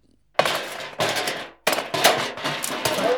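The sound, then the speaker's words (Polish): Pots and pans are hurled by a cook and crash down in a run of loud, metallic clattering bangs, several harsh impacts following one another with ringing rattles in between, and no voices. “Czy ta kucharka musi rzucać garnkami?”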